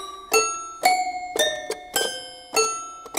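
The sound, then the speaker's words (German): Bright, bell-like toy piano notes ring out one after another in a slow, steady rhythm, each with a sharp metallic attack and a shimmering, glockenspiel-like decay, clear with no voices. “Das ist ein Toy-Piano, ein Spielzeugklavier. Das klingt ein bisschen wie ein Glockenspiel.”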